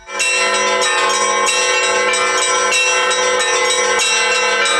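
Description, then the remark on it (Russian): Church bells peal continuously from a bell tower at a bell-ringing festival of church ensembles in the Stavropol region, Russia, loud and resonant, with overlapping strikes ringing in a steady, dense rhythm and rich metallic overtones sustaining throughout. “Колокольный звон на протяжении столетий был неотъемлемой частью быта русского народа.”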